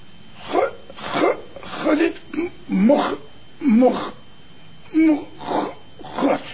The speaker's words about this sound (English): No, I was just clearing my throat.